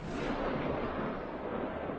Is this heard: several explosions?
yes